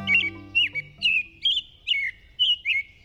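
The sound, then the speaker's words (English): An American robin sings a steady series of clear, rising and falling whistled phrases, about seven in quick succession with brief pauses between them, distinct. “American robins begin piping up in late winter and then sing all through spring and summer, sometimes well into fall, too.”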